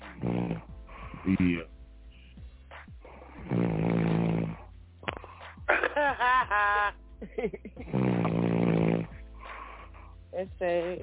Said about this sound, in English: Turn him back on. Hey, you need to make a track with him snoring on it.